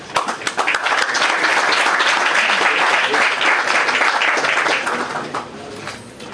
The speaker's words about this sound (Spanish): Muchas gracias a todos y un aplauso muy fuerte.